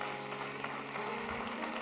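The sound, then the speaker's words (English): An audience at Christian Love Baptist Church claps together as a hand clap of praise to the Lord, in a dense, continuous burst of applause that holds steady throughout, with a faint sustained tone humming underneath and no voices. “If you love the Lord, give him a hand clap of praise.”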